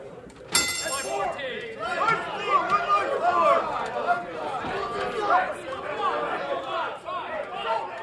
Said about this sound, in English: That's what it used to sound like at the Kansas City Board of Trade in 2008. Traders standing around the pits shouting orders, making those crazy hand signals you've seen in the movies.